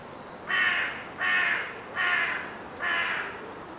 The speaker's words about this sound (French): Un corbeau, sur une souche blanche, le bec enneigé, espiègle, regarde un peu alentour, surveille le lac Petit.